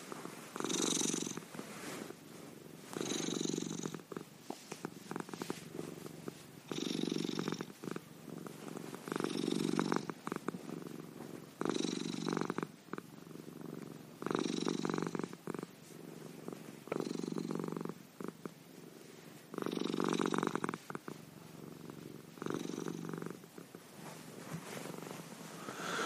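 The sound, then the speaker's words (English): Perna, a big, fat cat, purrs steadily, a rumbling rhythm of inhale and exhale pulses repeating roughly every two to three seconds, with no talking. “But Perna is a beautiful, just big, fat cat who likes to be, likes to be stroked and likes to purr.”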